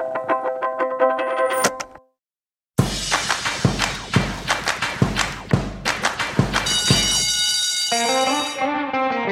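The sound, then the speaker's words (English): A bell rings in a quick run of bright, metallic strikes with ringing overtones, following a short sustained tone and a brief pause, then gives way to a wavering tonal sound at the end. The bell signals the start of Planet Money Summer School. “That bell can only mean one thing.”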